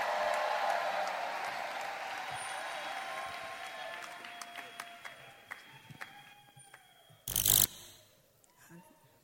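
A church audience applauds to welcome a pastor who is about to sing, a dense, steady wash of clapping that gradually thins to scattered individual claps, then a brief loud burst breaks in near the end.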